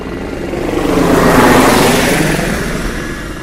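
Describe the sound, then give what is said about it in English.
A Black Hawk helicopter roars overhead, its loud, steady engine and rotor noise swelling to a peak midway and then easing off slightly as it passes. No voices are heard. “Yeah, Control, you couldn't do anything about the Black Hawk helicopter, could you? It's spoiling my concentration.”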